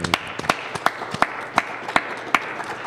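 A brief round of applause: about eight sharp, evenly spaced claps, fairly close and crisp, over a low background hiss with no talking.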